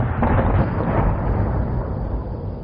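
A deep, sustained rumble of explosions from excavation work on the other side of a bay, about 1 kilometre away, rolls on for a few seconds, heavy in the low end and muffled by distance, with no voices present.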